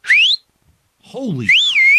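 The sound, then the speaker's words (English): A loud, shrill mouth whistle sweeps upward, then after a pause and a brief vocal sound, a second piercing whistle wavers up and down, sustained. “And you know, when I did that whistle, it came out of my mouth.”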